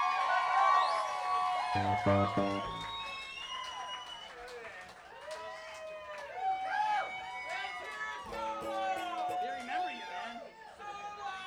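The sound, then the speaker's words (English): A crowd whoops and cheers for the bass player at a Dixieland-style number, with overlapping shouts and a bit of clapping mixed in, the noisy excitement building and holding steady for several seconds. “You give it up one time for the bass player.”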